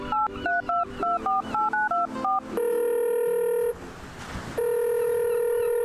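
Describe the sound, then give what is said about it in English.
A phone call is dialed on a Phonem by Beyer Dynamic: about nine quick touch-tone beeps in an uneven rhythm, then a loud, steady ringing tone that sounds twice, separated by a short burst of hiss. “Give me a sec. Let me give her a buzz.”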